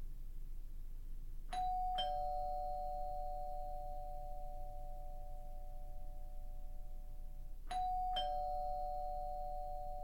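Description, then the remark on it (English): A doorbell chimes twice, each a clear two-tone ding-dong with a long ringing decay, the second ring coming about six seconds after the first over a quiet background. “As the doorbell rang and rang, I huddled in the bathroom, shivering.”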